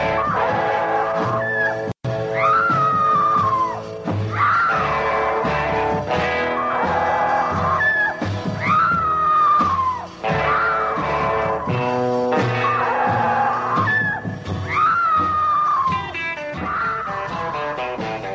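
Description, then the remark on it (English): High, wailing screams rise and fall in repeated bursts every couple of seconds, riding loud over a dense, steady guitar instrumental with no talking. “Long-term fans may remember that bit there. That screaming drove my folks bonkers.”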